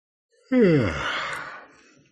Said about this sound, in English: All right, so here we go. After I yawn.